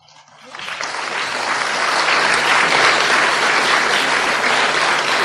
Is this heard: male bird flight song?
no